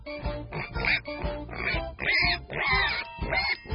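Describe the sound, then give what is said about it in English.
Pigs oink and grunt in a quick, steady series of snorting bursts, fairly loud, with no talking. “I walk to school with the little pigs.”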